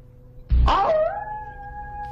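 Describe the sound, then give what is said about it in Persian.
A sudden wavering howl rises out of quiet background hiss and settles into a long, steady wail, like jackals howling in the night. No one speaks. “راستی اگه صدای زوزه چیزی شنیدی نترسی ها، گرگ نیست. زوزه؟ آخه بعضی وقت شغالام حواس میکنن آواز بخونن.”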